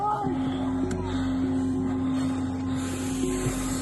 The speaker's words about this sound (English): Are we deflating their tyres?